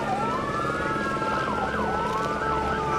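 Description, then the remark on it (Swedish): Sirens of police, ambulance and fire brigade vehicles arriving at a singer's villa wail together, their pitches sweeping up and down and overlapping, loud and continuous over a low engine rumble. “Efter 1,5 timme anländer polis, ambulans och brandkår och slår in dörren.”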